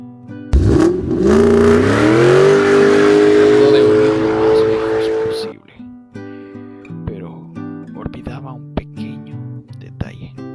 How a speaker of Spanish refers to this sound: se dirigió a su auto rápidamente, lo encendió, arrancó y se fue.